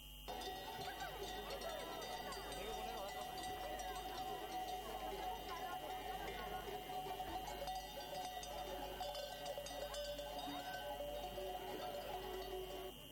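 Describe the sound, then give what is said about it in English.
A large flock of sheep, with goats, bleats continuously amid clanking bells and the steady murmur of a crowd as shepherds lead them through the streets of central Madrid, Spain, on the annual migration from summer to winter pastures: a dense, unbroken wash of animal calls and chatter outdoors. “Flocks of sheep are on the streets of Madrid.”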